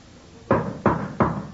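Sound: knocking on a door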